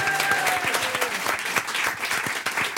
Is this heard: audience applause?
yes